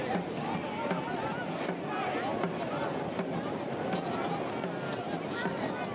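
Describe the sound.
Boats racing across the water make a steady, dense rush of engine and spray noise that holds at an even loudness throughout, with indistinct voices blended into the din.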